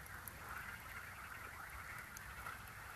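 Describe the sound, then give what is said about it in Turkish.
A dense outdoor chorus of frogs croaking continuously, many overlapping calls forming a steady buzzing din, with no voices present. “Belki kurbağa sesleri hoşunuza gider.”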